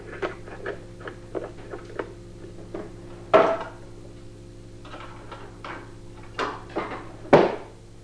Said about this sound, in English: Let's close the door. Yeah. Watch your fingers.